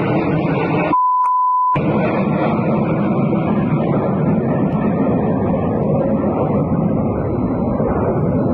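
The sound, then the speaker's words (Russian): An Il-76 transport aircraft with a burning engine, falling near the Severny military airfield in Ivanovo region, Russia, during a training flight, roars loudly and steadily throughout, a dense rushing drone with no pauses, briefly cut near the start by a short, pure electronic beep. “упав в Ивановской области Российской Федерации возле военного аэродрома «Северный» самолет Ил-76.”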